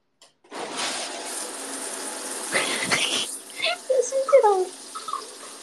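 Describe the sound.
A shower runs hard at high water pressure with a dense, steady hiss of spraying water for a few seconds, then cuts off and a voice makes a few short sounds.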